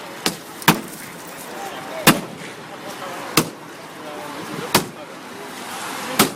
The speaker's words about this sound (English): Look, because this car has defects, man, this is a material thing. Look at this guy. He's smashing this car that's still worth,